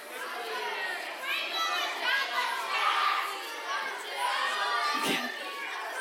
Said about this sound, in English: So what I want you to do is just start yelling out your favorite cookies. Favorite cookies.